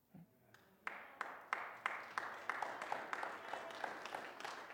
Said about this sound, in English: I'm glad you're clapping. Better yet, I hope you're living.